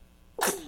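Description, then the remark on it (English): A single short, sharp sneeze bursts out after a quiet moment, fairly loud, with a bright airy blast that trails off quickly. “Bless you.”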